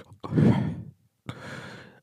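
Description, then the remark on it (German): A voice imitates an astronaut's heavy, slow breathing inside a helmet: one loud breath, then a second breathy exhale after a short pause. The breathing is hollow-sounding, with no words spoken. “Das heißt, man hört viel so atmen die ganze Zeit, immer so.”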